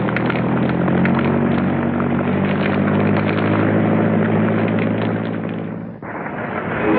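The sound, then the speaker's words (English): A propeller airplane engine drones loudly and steadily with a rough, rumbling roar as the plane is driven away from a burning plane, dipping briefly near the end before surging back. No voices are heard. “John climbs in after her and drives the plane away from the burning, defeated plane.”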